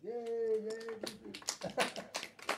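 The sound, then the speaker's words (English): A single voice lets out a drawn-out cheer, then a small group breaks into thin, scattered applause for a drummer, a handful of uneven claps rather than a full crowd. “How about a big round of applause for …?”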